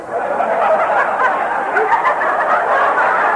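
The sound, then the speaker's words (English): A chicken in a bed clucks in a steady, busy stream of chattering clucks for a few seconds, fairly loud, with no one talking over it. “No, I mean the chicken in my bed.”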